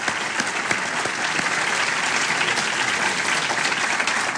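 An audience applauds the moderator at the end of a session, steadily, a dense wash of many hands clapping at an even, fairly loud level with a few sharper claps standing out early on, and no one speaking.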